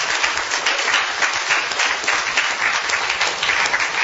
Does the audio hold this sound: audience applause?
yes